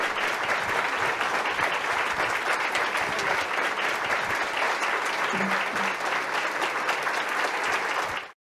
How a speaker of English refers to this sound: And thanks to God, here she is with us today. Let's welcome her with a warm round of applause.